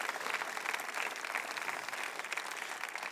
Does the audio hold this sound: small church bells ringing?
no